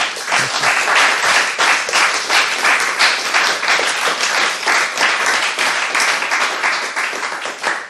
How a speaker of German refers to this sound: Nochmal sehr warmen Applaus, dass du da gewesen bist. Vielen Dank.